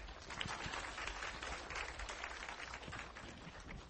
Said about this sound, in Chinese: 我们再一次热烈掌声我们欢迎连教授来为我们演讲，谢谢。